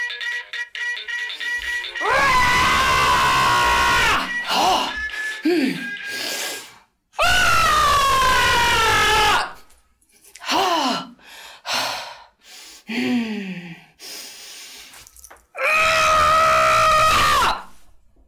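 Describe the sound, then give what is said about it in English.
A person screams loudly three times, each scream lasting a couple of seconds, with shorter strained cries and gasping breaths in between. No words are spoken. “If the problem still consists, let somebody else scream.”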